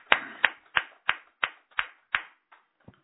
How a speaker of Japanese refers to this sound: 29歳を迎えられましたので、盛大な拍手でお祝い。